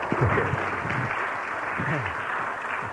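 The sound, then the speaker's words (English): An audience applauds at the beginning of a talk in a steady, dense wash of clapping that lasts throughout, with a few voices faintly audible beneath it. “You know, it's always nice for a speaker when people are clapping at the beginning of the talk.”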